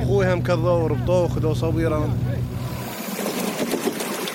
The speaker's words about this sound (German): Ahmed stellt den Motor ab. Das Boot treibt jetzt mitten auf dem breiten Fluss.